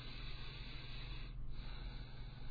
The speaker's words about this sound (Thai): แค่ได้ฟังเสียงหายใจเนี่ยเราก็นิ่งเลยนะ